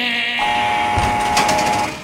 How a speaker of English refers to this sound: When there is a noise, like a steel gate opening because the guards are going to come down to tier. It's just nerve-wracking to hear that noise. Coming onto the tier, it's a heavy steel door, and it opens electrically, which means you hear...